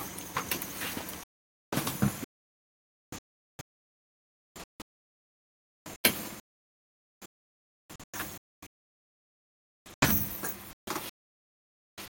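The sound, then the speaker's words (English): A front door is handled and shut, with a series of short clunks, rattles and scrapes separated by stretches of silence, a couple of them louder and fuller. No one speaks. “I've got to shut my front door.”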